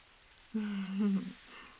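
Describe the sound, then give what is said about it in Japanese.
Rain falls steadily in a soft, even hiss, with a brief louder low hum rising over it for under a second midway through. No one speaks. “バス遅いね。雨だから渋滞でもしてるのかな。”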